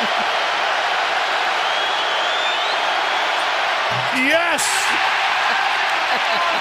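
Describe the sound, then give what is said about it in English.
A large arena crowd of basketball fans at a play-in game roars steadily throughout after an opposing player misses a free throw, winning them free chicken; a dense wash of cheering noise, with one voice shouting briefly partway through. “And the crowd explodes.”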